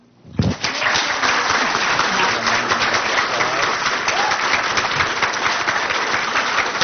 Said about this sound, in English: Okay. I wanted you to get to clap at the very beginning, okay?